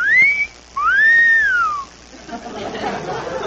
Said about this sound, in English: Hey, kids, just listen to the wind whistle through that old haunted house.